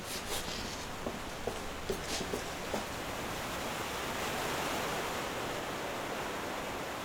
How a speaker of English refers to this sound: Okay, I can hear the river that way.